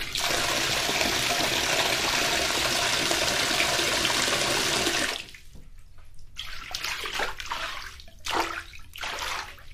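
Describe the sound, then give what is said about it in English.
Water gushes loudly and steadily from a faucet, recorded with a small microphone held right under it, for about five seconds, then the heavy flow stops, leaving scattered drips and small splashes. “I'm just getting it all close to the water, but not near it.”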